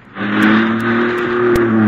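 A car engine hums steadily as the car, stopped at a red light, rolls slowly backward toward the car behind it, with a few faint ticks and a soft bump near the end as the bumpers lock, no voices.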